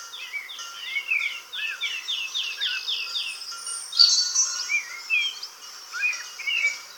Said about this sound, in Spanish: Hoy, primer día del mes, el paisaje sonoro está ocupado por las voces de las aves sedentarias, las que no se fueron. Mirlos en los rodales, petirrojos en los setos, totovías en el cielo y alguna cosa más.